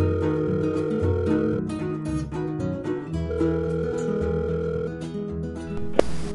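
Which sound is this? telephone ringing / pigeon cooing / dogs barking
telephone ringing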